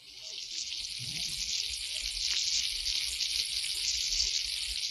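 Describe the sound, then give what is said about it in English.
Canned chili con carne sizzles steadily in a pot on the stove, a continuous bright hiss with faint low scrapes of stirring underneath, lasting the whole time with no talking. “And now we'll pour the chili con carne from the can into this pot. Now we'll turn on the stove and stir.”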